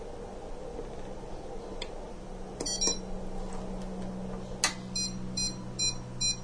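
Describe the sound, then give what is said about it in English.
Short, high electronic beeps from an SWR meter pulse slowly in steady groups over a low background hum while a radio carrier of about 34 watts is keyed, pausing briefly before resuming at the same even rhythm; the slow beeping shows an SWR of about 1.0. No one speaks. “Now you can hear that pulsing beeping.”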